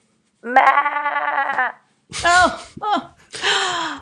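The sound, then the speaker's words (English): A person does a loud, quavering sheep bleat, a wavering 'baa' held for about a second, then follows with a few shorter, breathy vocal bursts. “Baa black sheep.”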